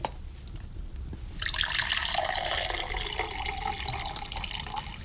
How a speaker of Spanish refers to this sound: sírveme un poco más de agua, por favor, hijo.